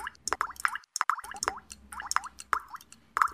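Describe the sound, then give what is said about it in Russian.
Meltwater drips from roofs, tapping against glass in a quick, irregular patter of small plinks, fairly clear, with a brief pause partway through. “С крыш капает капель. Капельки о стекло. Бьют, барабанят.”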